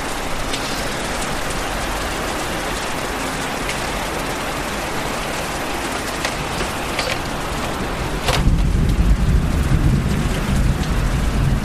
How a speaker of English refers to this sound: The sound of rain is just so calming.